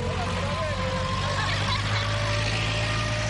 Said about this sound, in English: That's not a heavy truck. It is a machine which is finalizing the construction.